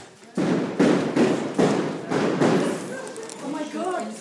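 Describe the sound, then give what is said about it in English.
Police fire tear gas canisters into a house at close range, ripping holes in its walls, in a rapid series of about eight loud thudding bangs at a steady rhythm, followed by people's voices and shouting as the barrage stops. “The police fire tear gas canisters at such close range, they rip holes into the walls of the house.”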